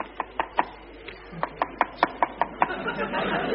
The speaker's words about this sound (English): Something strange is happening. There's a peculiar knocking sound on the windscreen. Seems to be coming from outside the plane.